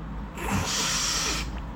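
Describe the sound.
A single drawn-out, pig-like snort through the nose lasting about a second, harsh and breathy with a strong airy hiss, heard on its own without any talking.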